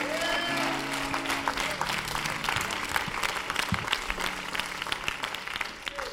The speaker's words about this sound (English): Now clap your hands and give it to Jesus, would you?